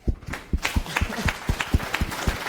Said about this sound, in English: Applause.